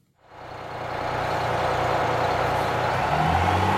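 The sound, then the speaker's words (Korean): A minibus engine starts up and settles into a steady, loud rumbling idle, with a broad hum and low droning tones continuing without any voices; the minibus is heading to Copacabana beach. “미니버스를 타고 코파카바나 해변으로 향했다.”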